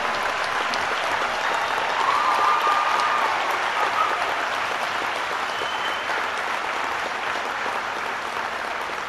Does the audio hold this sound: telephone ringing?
no